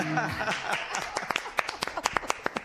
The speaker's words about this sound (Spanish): La gente ha aplaudido, bueno, también al otro lado.